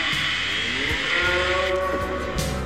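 Cows moo in long, drawn-out lows that overlap one another, loud, with a few soft thuds underneath and no one speaking; the cows come from a BBC sound-effects sampler record.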